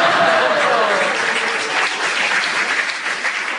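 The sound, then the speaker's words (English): A studio audience applauds steadily during a game after a challenge, a dense, loud wash of many hands clapping throughout, with no voices standing out above it. “As they clapped, I will give you a point for that.”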